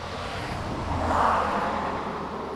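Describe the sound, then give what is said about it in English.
Cars rush past on a highway, an ambient sound effect added to music: a steady roadway roar swells as one vehicle sweeps by mid-clip, then settles back into the constant traffic hum. No voices. “Finally, we've added a few ambient sound effects to the music. Cars zooming past, birds singing, that kind of thing.”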